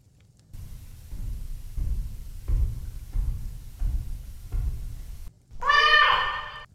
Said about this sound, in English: What is that? Didn't I tell you? This is Spooky, my cat. Why is he so big? He's a familiar. He chooses to be big.